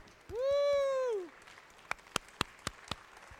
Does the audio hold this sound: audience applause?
yes